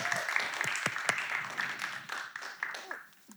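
An audience applauds a woman being called up to come on stage, a dense wash of many overlapping hand claps that holds fairly loud throughout, then thins out and fades toward the end.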